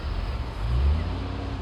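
A car engine rumbles low and steady, swelling briefly as it accelerates and then holding at a constant drone, as a car pulls away and leaves a parking lot.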